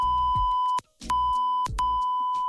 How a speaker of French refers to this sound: Alors certaines séquences ou certains mots sont parfois coupés au montage pour éviter de choquer la communauté ou pour coller aux règles fixées par l'hébergeur. Sinon, parfois, les passages sont tout simplement bipés.